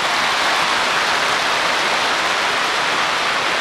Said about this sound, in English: All I will do, I put my hands together. I clap. When his ears feel my clapping, he'll say, it's enough. Let me go.